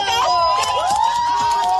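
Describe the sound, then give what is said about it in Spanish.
A loud crowd of striking logistics workers protests at a picket line in Guadalajara on the third day of the strike, called around Black Friday for better conditions. Voices shout and cheer together while shrill whistles blow steadily throughout. “Sonidos de esas protestas, los sindicatos hablan de un seguimiento superior al 80% en esta tercera jornada para pedir mejores condiciones”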